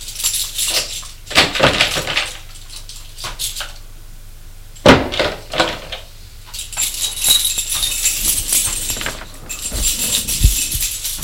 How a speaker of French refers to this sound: Souffle un peu et sort de l'ascenseur. Ouvre la porte de son appartement.